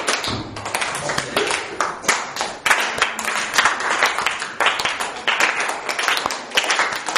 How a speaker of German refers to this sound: Psalm 47, Vers 2. Klatscht froh in die Hände, alle Völker. Ausprobieren.